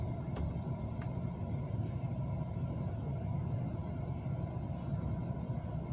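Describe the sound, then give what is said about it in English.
A steady, low engine rumble drones continuously, like a car idling, with a couple of faint clicks and ticks on top and no talking. “Alright, you could turn the car off now.”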